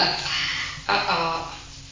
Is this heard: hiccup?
yes